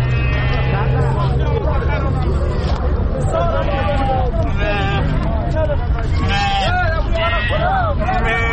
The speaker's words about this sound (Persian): ما هم یک نون با یکی از برادران صحبت داریم که اینا یک تعداد از گوسفندها را در اینجا در منطقه چمند حضوری برای فروش آوردن.